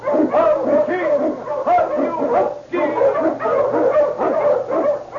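A pack of Eskimo sled dogs, led by the Wonder Dog King, barks and yelps excitedly and loudly, overlapping cries forming a continuous, clamorous chorus with only brief pauses and no talking, as they blaze a trail through storm and snow in the Yukon in The Challenge of the Yukon.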